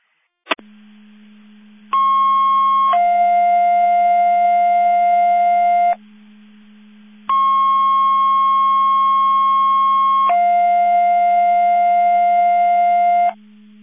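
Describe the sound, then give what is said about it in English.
Fire radio dispatch alerting tones for a McHenry County Division 5 test of the Mavis Division 5 Mutual Aid Box alarm alerting receivers: a steady low hum under two sequences, each a sustained higher tone stepping down to a second long tone, loud and clean with a short gap between, no voices. “Testing Mavis Division 5 Mutual Aid Box. Alarm alerting receivers.”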